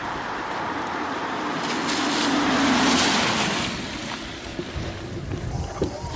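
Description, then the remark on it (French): On Friday 4 March, a car approaches along the road from a chapel toward Saint-Agnan, its broad rushing engine and tyre noise swelling to a peak midway before easing off slightly, heard outdoors with no one speaking. “Attention, j'entends une voiture, c'est parti.”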